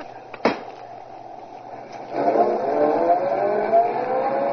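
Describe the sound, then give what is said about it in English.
A sharp clunk like a door or latch, then a car engine starts up and the car drives into a garage steadily, its low motor hum growing louder and rising slightly in pitch, with no one talking. “I'll just put the car in the garage.”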